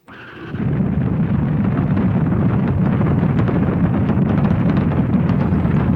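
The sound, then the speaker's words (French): A deep, rumbling roar erupts after a brief quieter lead-in, then holds steady and loud as a dense, crackling wall of low-frequency noise as the engines of an Ariane rocket ignite on the launch pad, but a hook holding it to the ground structure keeps it from lifting off. “Les moteurs s'embrasent, mais la fusée ne parvient pas à s'arracher du sol.”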